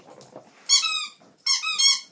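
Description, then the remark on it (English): A female dog squeezes a squeaky rubber toy with a long rubber tube in the middle, like a bone, giving two long, high-pitched squeals, each starting with a brief wheezy rustle. Soft chewing and snuffling noises come before the squeaks. No one speaks. “Give me that toy. What you got? Yeah. That's too noisy.”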